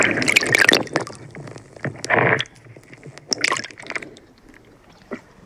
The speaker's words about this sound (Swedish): Ja, just nu är det tyst. Man hör lite vågskvalp och lite från bryggan här.